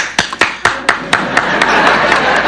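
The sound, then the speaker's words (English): Scattered, distinct hand claps quickly swell into a dense, continuous wash of audience applause during a magic act, fairly loud, with no talking over it. “Please, hold your applause until the end.”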